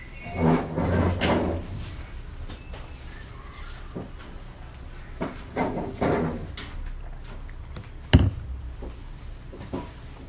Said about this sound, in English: I'm going to close the door.